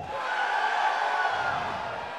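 A crowd yells and cheers together in a sustained, dense roar of many voices, steady and loud for a couple of seconds with no single voice standing out.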